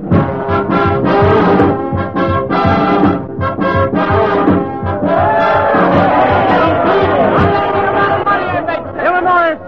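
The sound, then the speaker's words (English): A loud, dense election night crowd in New York's Times Square on November 7th, 1944, roars continuously, with overlapping shouting voices, cheers and babble at a steady high level; a few rising whoops stand out near the end. “Yes, November 7th, 1944, a typical American election night with wild, excited crowds swarming in New York's Times Square, Chicago's Loop, and around the town hall in Tompkins Corners.”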